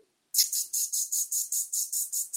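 A rattlesnake's dry, high-pitched buzzing rattle at a green oasis starts abruptly after a moment of silence and keeps going in steady, rapid pulsing surges, about five per second, with no voices.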